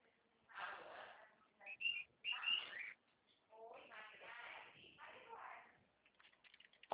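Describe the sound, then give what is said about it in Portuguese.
A pet cockatiel whistles and chirps in short bright bursts, with some soft rustling between calls and a brief gap midway. “Calopsita.”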